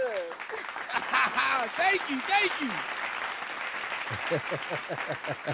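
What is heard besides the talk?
round of applause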